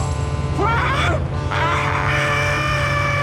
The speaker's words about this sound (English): The truck! What? The truck! The truck!